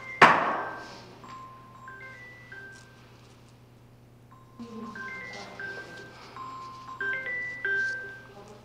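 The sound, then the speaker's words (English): A phone rings during a meeting with a melodic electronic ringtone, a short stepped tune that plays, pauses, then repeats more loudly, after a sharp thump at the start, over a steady low hum. “A phone's going off.”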